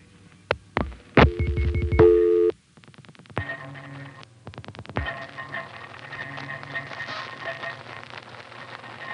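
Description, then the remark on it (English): Telephone line sounds from a call to a vacant level at an independent telephone company with centralized intercept: a short, bright operator intercept Q tone as the operator answers, amid sharp clicks, followed by a run of rapid clicks and a steady hiss of line noise carrying faint tones. No one speaks. “Notice on this next call, to the vacant level, that when the operator answers, you hear a unique little Q tone.”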